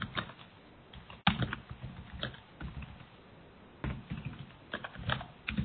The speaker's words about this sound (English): While folks are typing